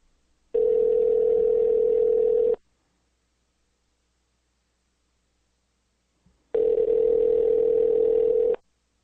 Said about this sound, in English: Exciting broadcasting here, listening to the ringtone, isn't it?